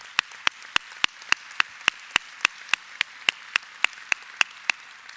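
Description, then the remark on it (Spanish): An audience applauds to recognize unpaid volunteers who serve every Sunday, clapping together in a fast, steady unison rhythm: about eighteen sharp, bright claps over a soft wash of scattered hand noise, with no talking. “Y yo quiero reconocerlos y darles un gran aplauso.”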